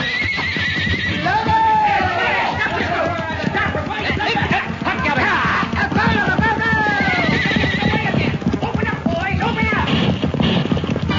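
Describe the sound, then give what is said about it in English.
Horses neigh and whinny repeatedly over a steady, loud clatter of galloping hooves, continuous throughout, with some indistinct voices mixed into the commotion, as riders run for their horses in the dark to go after cattle rustlers. “Run for your horse, Pancho.”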